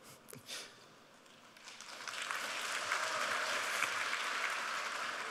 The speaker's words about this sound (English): It's the first time I get applause because I hit a breakpoint in my code.